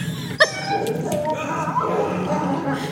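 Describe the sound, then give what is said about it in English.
A wolf gives a single sharp bark, followed by a few thin, rising whimpers and whines over a steady murmur of background noise. “Oh, there's wolves.”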